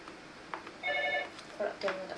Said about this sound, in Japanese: 電話だ。